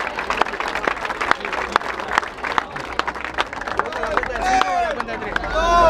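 A crowd at a freestyle rap battle bursts into dense, steady applause after time is called, and the clapping swells toward the end as shrill whistles and rising cheers join in over it.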